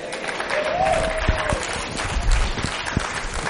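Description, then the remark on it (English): An audience claps steadily for several seconds, a dense wash of many hands with a few sharper, louder claps standing out, while a faint voice briefly rises over it. “Oh, y'all didn't clap when I said the first time it's not good to miss.”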